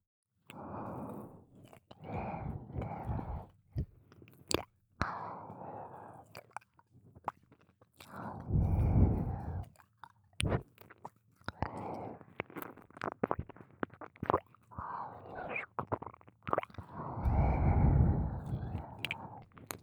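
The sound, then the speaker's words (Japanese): Wet mouth and tongue sounds of a tongue licking an ear, with smacking clicks and squishy licks, recurring in slow bursts right against the microphone, intimate and fairly quiet, with soft breaths between. “耳は皮膚が薄いから敏感なんだよ。ベロが触れるたびにビクビクしちゃうでしょ。”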